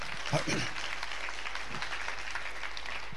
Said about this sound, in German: Ja, könnt ihr auch klatschen, wenn ihr wollt.